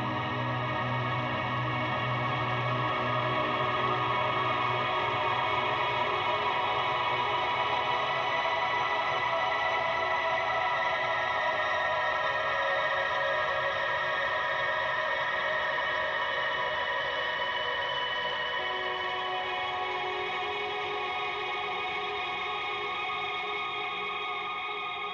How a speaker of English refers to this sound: So this is, just the building of the linear parts on the guitar. This is verse 2. I think you hear pretty clearly the first two parts that are going on, but halfway through the second verse, a third guitar part comes in that's a little lower in the